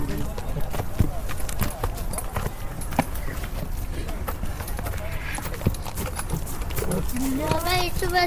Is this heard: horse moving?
yes